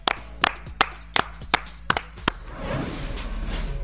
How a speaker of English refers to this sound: Clap it up.